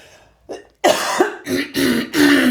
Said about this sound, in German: Ich habe das immer wieder, dass ich von Nüssen danach husten muss.